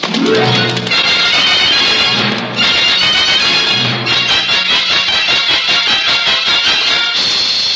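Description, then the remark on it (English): A horse whinnies loudly while galloping hooves pound in a fast, steady rhythm, the whole scene busy and dense with no talking. “Well, it just so happens I'm not a ghost man, and I do need a horse. Make him go fast, Telecom.”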